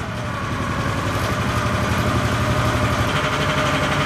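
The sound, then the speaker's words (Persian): The engine of a handmade car, built nine years ago by a craftsman in the Perm region of western Russia and closely resembling a Ford Model T, idles steadily with a low, rumbling throb and a faint rattling vibration, holding an even loudness throughout with no voices. “یک استادکار در منطقه پرم در نواحی غربی روسیه این اتومبیل دستساز را 9 سال قبل درست کرده و هر روز با آن رانندگی می‌کند.”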